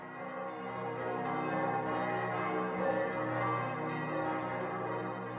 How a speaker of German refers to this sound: Thomas Manns Roman »Der Erwählte« beginnt mit den Zeilen: Glockenschall, Glockenschwall, supra urbem, über der ganzen Stadt, in ihren von Klang überfüllten Lüften. Glocken, Glocken, sie schwingen und schaukeln, wogen und wiegen.